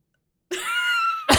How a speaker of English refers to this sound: Oh, it's just a cough. That's okay.